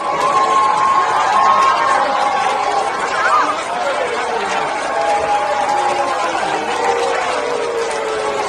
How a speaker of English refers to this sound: At the University of Michigan, the ceremonies were interrupted by students with Palestinian flags. They were met with cheers and boos.